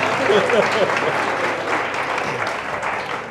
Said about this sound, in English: Go ahead. Let's give him a hand clap. Un aplauso, por favor. We give him a hand clap. Muy buen trabajo.